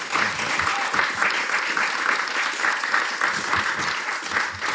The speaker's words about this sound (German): Wenn jetzt nicht geklatscht worden wäre, hätte ich mir wie Sorgen gemacht, was die Leute wählen.